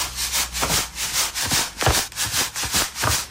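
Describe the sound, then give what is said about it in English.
Gritty, rhythmic crunching of sugar on strawberries being chewed: about seven steady bursts, each a coarse, rasping crunch at moderate volume, with no talking. “Can you hear the sugar crunch?”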